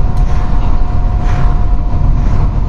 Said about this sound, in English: Wow, the cars. It's coming in the back because the window's open too.